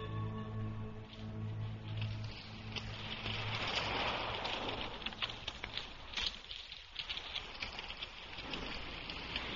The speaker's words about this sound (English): It's starting to rain.